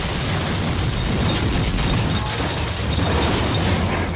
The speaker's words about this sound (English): The bus rocks violently as its windows explode in a shower of glass and dust, which swirls in the moonlight.